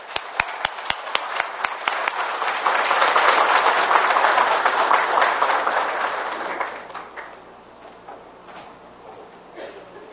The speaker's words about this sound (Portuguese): Eu gostaria de fazer um aplauso, eu e todos vocês, ao nosso município de Santa Maria de Jetibá.